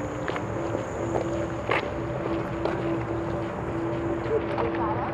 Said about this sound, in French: On longe le square pour s'arrêter juste avant la rue Saint-Denis. Je marche sur le trottoir.